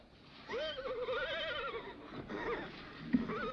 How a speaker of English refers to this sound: Johnny glances towards the braying horse, then steps towards the settlers.